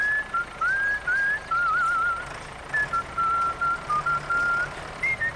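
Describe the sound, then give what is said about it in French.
A person whistles a light, bouncy tune in short melodic phrases with brief pauses, clear, over a faint steady background hum, in a radio ad for JLD Lagu, a John Deere dealer. “toi aussi, tu pourrais siffler en travaillant.”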